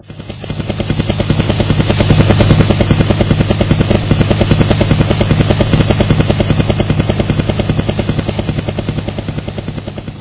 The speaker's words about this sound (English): Ah, the possession I have always wanted. A helicopter.